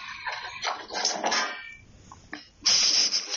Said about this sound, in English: A cat has just attacked a bug on the screen and knocked herself off the windowsill.